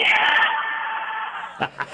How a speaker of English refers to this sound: Can I get one more all right? Thanks from the crowd there at Floyd Dryden.